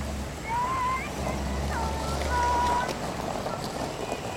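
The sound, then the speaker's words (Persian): A car drives into a courtyard with a low, steady engine rumble, faint squeaky tones drifting over it before the motor sound eases off. “ماشین فریدون خان میاد تو حیاط”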